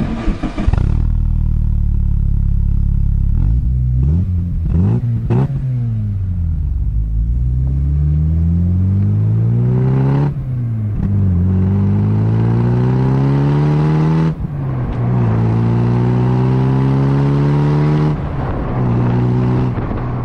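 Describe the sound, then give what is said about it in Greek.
The engine of a Mk2 Volkswagen Golf GTI G60, bought in 1990, idles, then revs in sharp blips followed by several long, loud sweeps that climb and fall back, with no talking over it. “Η πρώτη γενιά που πήρα, στο πούμε, είναι το MK2, το GTI G60 γνήσιο.”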